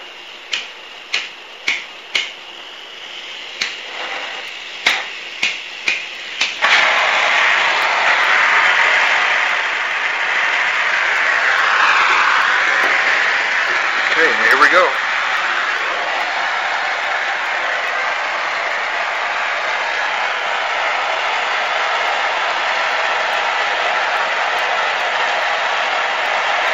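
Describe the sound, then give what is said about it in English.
Half a dozen sharp igniter clicks, then a lit blowtorch flame bursts into a steady, loud hissing roar that keeps going unbroken as it heats one end of a pipe, which is spun to form a bell-shaped end, with no voices. “So lighting up torch land here.”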